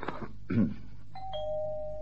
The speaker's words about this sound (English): Try the bell, sir.